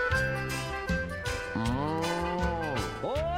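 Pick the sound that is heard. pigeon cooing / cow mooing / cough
cow mooing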